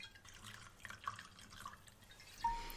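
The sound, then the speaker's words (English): A small amount of whisky trickles and drips from a corked bottle into a glass, a quiet liquid splash over a few seconds with faint clinks, no talking. “Right, well, give it a pour.”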